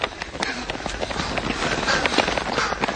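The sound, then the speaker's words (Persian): Many runners' feet pound rapidly and continuously in a running race near the finish line, a dense, busy patter of footsteps with a noisy crowd-like background. “علی یکم قدماشو کن میکنه تا دو نفر از او جلو بزنن. علی الان پشت سر اون دو نفر دیگه است.”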